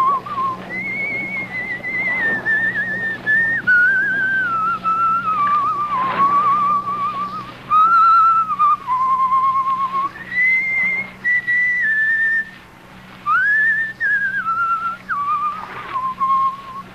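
A person whistles the tune Annie Laurie, a slow, flowing melody, clear, with held notes and brief pauses between phrases over a low steady hum in the background.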